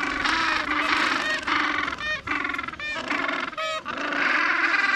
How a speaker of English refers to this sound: Penguins. Antarctica's outer edges are home to a small variety of birds and whales and seals, but the penguins rule in sheer number. You don't even have to look for them.